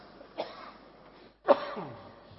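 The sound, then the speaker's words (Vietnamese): Two fairly loud throat-clearing coughs from a Buddhist lay follower, a short one followed about a second later by a stronger, rougher cough that trails off, with no talking. “Đấy, Phật tử thương cho nên ho luôn.”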